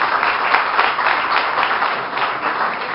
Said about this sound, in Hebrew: אפשר, אפשר כפיים לבורא עולם.